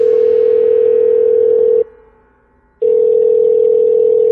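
A loud, steady telephone dial tone hums, drops out for about a second, then resumes unchanged. No voices are heard.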